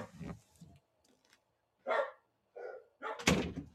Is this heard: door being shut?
yes